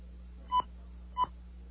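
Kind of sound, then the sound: signal or alarm, telephone keypad dialing tones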